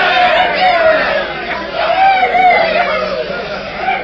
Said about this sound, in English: Look how happy everyone is. Look at them cheering and shouting.